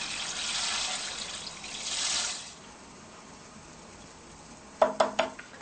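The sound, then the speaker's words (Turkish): Two cups of red lentils pour into four cups of water in a pot with a steady, hissing rush for a couple of seconds, then a lull, then three quick ringing clinks of metal cookware. No one speaks. “Şimdi daha önce hazırlamış olduğum 2 bardak kırmızı mercimeği bu 4 bardak suyun içine boşaltıyorum.”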